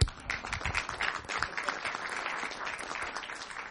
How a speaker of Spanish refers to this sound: Porque creo que el trabajo que hicieron es maravilloso, de verdad merece más que un aplauso, ¿no? O sea, sí, aplaudan, gente, por favor.